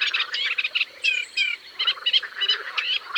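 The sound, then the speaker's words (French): A Eurasian reed warbler sings a steady, chattering song of harsh, repeated notes in quick rhythmic bursts, clear, with no voices present. “Il y a un oiseau au chant assez amusant par ici. C'est la rousserolle effarvate.”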